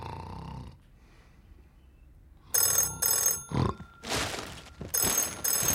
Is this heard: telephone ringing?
yes